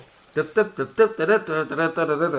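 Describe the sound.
A voice imitates a jazzy trumpet solo in New Orleans jazz style, scatting a quick, bouncy melody in short punchy bursts that run together into a continuous bright line, with no spoken words.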